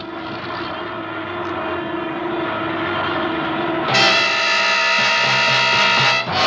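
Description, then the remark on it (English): A failing, burning starboard propeller engine of an airplane drones loudly and steadily during descent, then its tone shifts abruptly to a harsher, more strained roar near the end. No voices are heard. “it's just the starboard engine. I'll have to feather the prop.”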